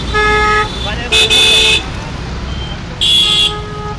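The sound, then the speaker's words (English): Hundreds of vehicle horns honk in morning rush-hour traffic of cars, scooters, motorcycles and tuk-tuks on Tonk Road in Jaipur, India, over steady traffic noise, with short blasts overlapping at different pitches, two louder bursts standing out, and voices faintly audible in the busy street din. “The air is engulfed with the sounds of hundreds of horns relentlessly honking.”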